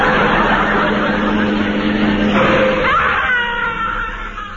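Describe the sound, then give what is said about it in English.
A car brakes hard: a loud rush of road noise gives way to a rising, high-pitched tyre squeal before the sound trails off. No one speaks. “Marvellous what a quick touch of the brakes can do.”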